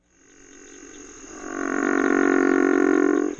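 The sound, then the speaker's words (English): A river frog gives one long, deep, rasping call that swells steadily louder over a few seconds. It carries on alone, rough and snore-like, with no voices. “This is the river frog.”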